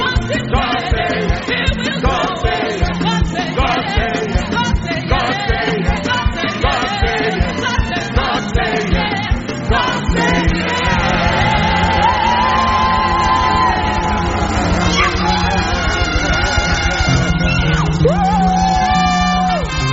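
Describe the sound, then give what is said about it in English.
An audience claps and shouts loudly together, dense rhythmic clapping mixed with whoops and yells throughout, with sustained musical tones emerging beneath the noise in the second half. “If you believe that is victory, give him a clap, give him a shout.”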